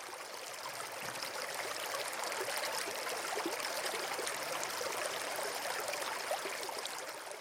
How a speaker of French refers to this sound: Alors nous venons d'entendre le bruit d'une rivière, et qui est la Loire de mon enfance, la Loire très en amont, dans la région du Puy-en-Velay, donc on est dans la Haute-Loire, c'est une petite rivière, c'est encore une sorte de torrent qui s'écoule